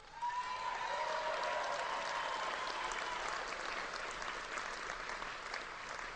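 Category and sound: crowd, audience cheering and applauding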